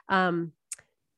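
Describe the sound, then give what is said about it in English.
A fake fire alarm that sounds like a kid's toy, going off after Ricky sets a fake fire in a scene set around 1950 or 1951: a single brief buzzy, harmonic tone that sags slightly in pitch, followed by a quick sharp click, with nobody talking. “So even if you are in the room next to where this fake fire alarm is happening, would it really startle you to think that there's a fire and maybe go and investigate?”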